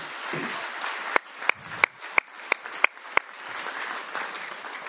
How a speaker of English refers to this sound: Thank you. I think there was applause for you making the effort.